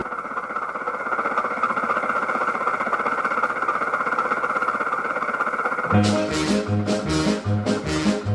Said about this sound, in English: And on this car he had a motor, E-I-E-I-O. With a rattle here and a rattle there, here a rattle, there a rattle, everywhere a rattle.